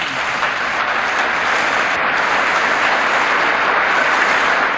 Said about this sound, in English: A long and well-deserved round of applause for Michael Parenti's brilliant 1993 talk, Conspiracy and Class Power.